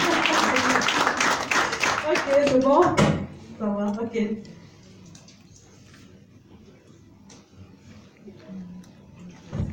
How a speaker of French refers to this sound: Applaudissez pour vous-même.